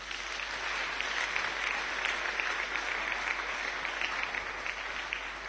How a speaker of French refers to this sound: Alléluia. Est-ce que nous pouvons applaudir le Seigneur?